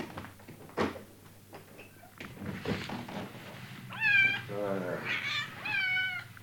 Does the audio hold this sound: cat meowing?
yes